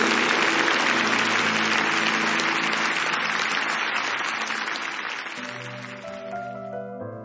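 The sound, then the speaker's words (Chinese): A crowd claps to give the greatest glory to him, in a steady, dense, sustained wash of applause that slowly thins out, giving way to sustained keyboard or organ tones near the end. “拍手，将最大的荣耀归给他。”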